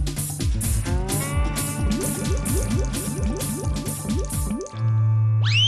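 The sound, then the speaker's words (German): Rain falls over a sunflower field in rapid, rhythmic drips of water that plink down in a steady, almost musical pattern, about two per second, clear, ending with a sustained steady tone. “Kalli schüttelt sich und regnet, regnet, was er regnen kann.”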